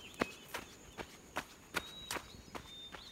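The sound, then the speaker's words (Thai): Soft, cautious footsteps of two men sneaking through orchards into a village in Phatthalung province, Thailand, at a slow, steady pace, about seven quiet steps with faint crunches under each footfall, with no one talking. “กำลังเดินลัดเลาะผ่านเรือกสวนเข้ามาในหมู่บ้านด้วยท่าทีลับๆล่อๆก่อนที่จะลอบหายเข้าไปในร่มเงาแมกไม้ใกล้สวนหลังบ้าน”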